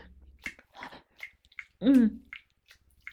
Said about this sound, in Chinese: 你们是不是听到老师发出奇怪的喘息声响啊？这是老师在努力呼吸呢。